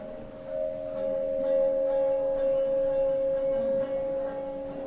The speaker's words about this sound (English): This year we have here not only the Czech bells, but also from Tibet and from Buddhist temples, and visitors can even try this water bell. Some resonation, and the resonation makes the water play.